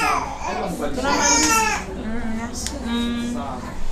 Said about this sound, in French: Ici, nous sommes dans la salle d'éducation sanitaire où des cris de bébés nous accueillent.